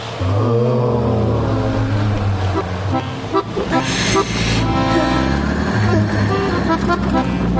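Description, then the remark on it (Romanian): Busy street traffic fills the scene: engines rumble steadily, car horns honk repeatedly, and a siren wails through the mix, loud with a constant dense roar and echo. “Mașini, motoare, claxoane, sirene, peste care se rostogolește cu ecou”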